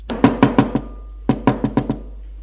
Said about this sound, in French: Et la bonne monte à la chambre de Sophie. Frappe à la porte.